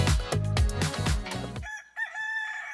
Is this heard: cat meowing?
no